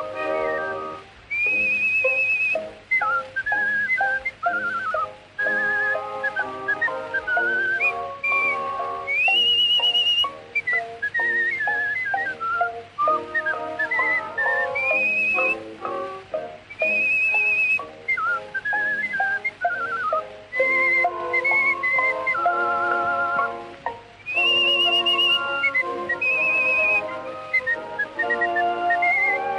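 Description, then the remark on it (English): Someone whistles a bouncy melody nonstop, with clear, high tones leaping between notes over a steady rhythmic backing, loud throughout. “Always whistling to while the time away, from the early morning to the close of day.”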